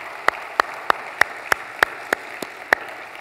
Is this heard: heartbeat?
no